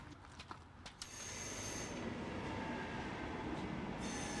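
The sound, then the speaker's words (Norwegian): A train rumbles steadily at Kolbotn station in Nordre Follo, Norway, its broad roar building after a few sharp clanks and holding loud, with faint high squeals from the wheels. “Skal vi være med toget, må vi opp denne veien.”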